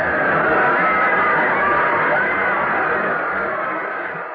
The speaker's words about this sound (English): A three-man interference takes Andrews out completely, and Smith is across for a touchdown. Listen to that crowd cheer.